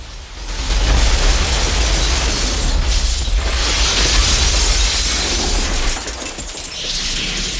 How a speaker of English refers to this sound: He stops outside it and shatters the glass walls. Jax and Sonya dive for cover as shards of glass fall all around them.